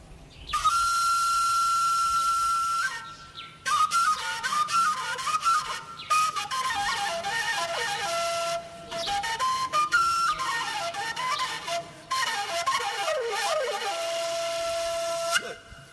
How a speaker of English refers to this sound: Bon, je vais vous présenter, on appelle ça le wombere. C'est une flûte à pentatonique, quatre trous. C'est pour les bergers, parce que moi, je suis un berger.